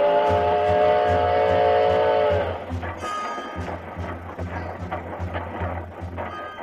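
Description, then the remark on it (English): A wood-burning steam locomotive chugs in a steady, rhythmic beat of heavy puffs and clanks. A sustained tone rides over the first couple of seconds before cutting off, leaving the chugging to continue. “This here engine eats up wood like it's striped candy.”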